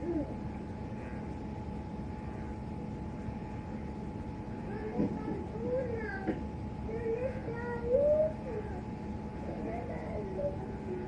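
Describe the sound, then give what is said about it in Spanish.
A cat meows several times in short, wavering calls, fairly soft, against a constant low electrical hum. “Vas a mirar el gato.”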